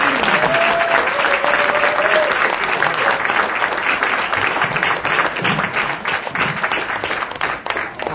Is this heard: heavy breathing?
no